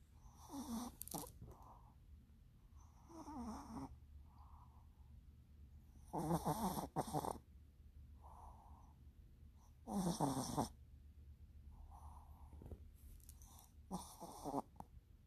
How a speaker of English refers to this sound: She is sitting next to me and just so cute under her blankets and snoring. Oh my God, I love my puppy so much.